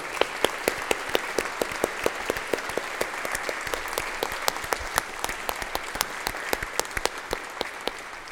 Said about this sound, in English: So I think a round of applause for parents is in order.